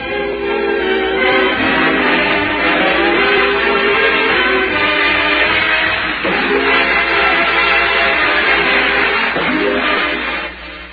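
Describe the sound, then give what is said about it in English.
A train rumbles past with a loud, steady horn chord blaring almost the whole time, swelling slightly near the end before fading a little. “And there's a friendship train coming your way.”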